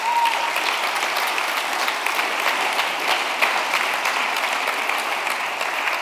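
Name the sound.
audience applause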